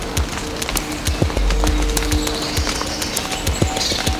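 Water droplets drip irregularly under a grove in the Pyrenees, each landing as a short plop, falling one after another over a steady, hushed outdoor background.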